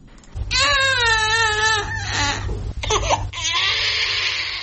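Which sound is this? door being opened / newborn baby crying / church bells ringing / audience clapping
newborn baby crying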